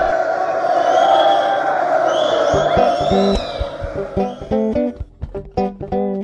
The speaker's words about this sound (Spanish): Damas y caballeros, bienvenidos una vez más al Teatro Naranja Exprimida. Hoy tenemos nuevamente un espectáculo imperdible, así que démosle un caluroso aplauso a los actores.